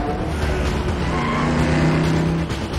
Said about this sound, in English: The car speeds after her. It pursues her through narrow Maltese streets lined with old stone brick buildings.